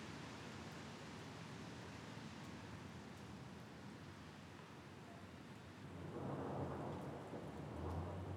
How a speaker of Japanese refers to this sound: 4月8日19時過ぎ、仙台市で突然春の雷が鳴り出しました。